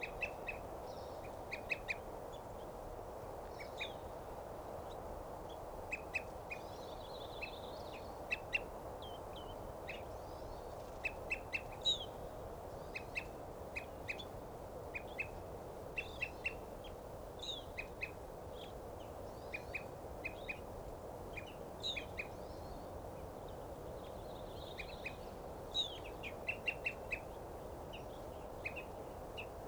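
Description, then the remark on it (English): Evening grosbeak calls: short, bright chirps repeated steadily throughout, sometimes in quick clusters, over a constant low rushing background noise. No one speaks. “Now that bird's tooping, and there's a evening grosbeak there.”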